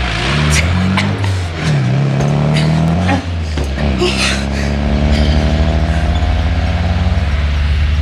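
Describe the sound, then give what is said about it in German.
A car engine revs loudly and the crowded car pulls away in pursuit, accelerating hard with rising engine pitch and shifting gears, the roar staying steady throughout. “Frag nicht, sondern fahr los.”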